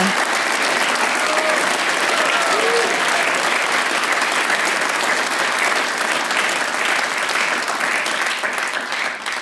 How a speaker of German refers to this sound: Und jetzt einen Applaus, einen großen, für alle Studentinnen und Studenten und ihre Betreuer